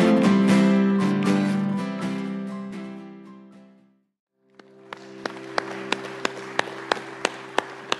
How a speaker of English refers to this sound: they had kind of a fun little clap pattern go to it